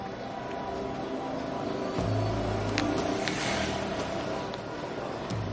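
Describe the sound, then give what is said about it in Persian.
A motorcycle engine runs, its rumble swelling as it revs around the midpoint, then holding steady with a faint easing toward the end. No voices are heard. “منو میبرین تا اینجا موتور رفته.”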